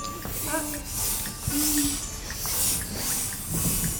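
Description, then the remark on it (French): A voice imitates a snake with long, breathy hisses in repeated waves, fairly loud, with a few brief tonal vocal bits mixed in. “Un serpent qui siffle.”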